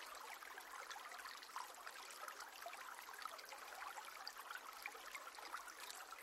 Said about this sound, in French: Le chant de la rivière ravit vos oreilles et se mêle au gazouillis joyeux des oiseaux.